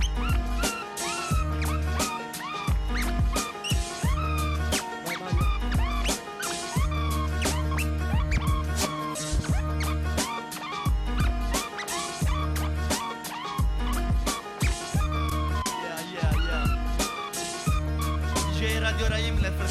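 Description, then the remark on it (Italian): A DJ scratching records at a hip hop evening over a loud, steady hip hop beat: rapid squeaky back-and-forth scratches ride on heavy bass and punchy drums throughout, with no voices. “Un casino per …, dai che sta screcciando.”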